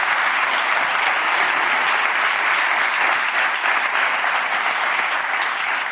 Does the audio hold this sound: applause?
yes